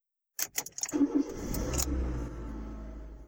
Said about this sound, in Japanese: 車は発進し、車内がガタゴトと振動します。